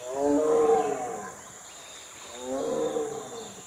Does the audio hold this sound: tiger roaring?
yes